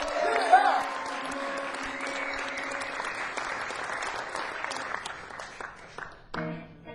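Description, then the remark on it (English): Sustained applause from a live audience for the band's drummer, a dense steady clatter of many hands clapping for several seconds, with faint tones and voices underneath, thinning out near the end. “Give a round of applause to our drummer.”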